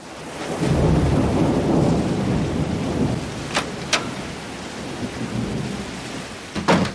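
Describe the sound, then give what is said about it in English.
Heavy rain that has been falling all morning pours steadily as a low rumble of thunder rolls through near the start, with a few sharp cracks and drips standing out later. No one speaks. “It's raining very hard.”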